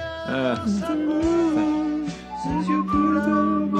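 A person whistles a song melody, moving through sustained, gliding notes with short breaks between phrases, over a faint hum of background tones.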